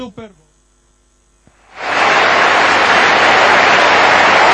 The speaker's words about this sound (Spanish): Aplausos y emoción entre los fieles. Se emociona muchísimo el nuevo Papa, con lágrimas en los ojos, observando las caras de alegría, las sonrisas de todos los fieles, de las miles de personas que se dan cita en la Plaza de San Pedro